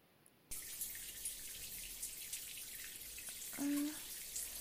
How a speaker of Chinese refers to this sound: 前辈，你是不是开错水龙头了？这个是花洒，我身上都被淋湿了。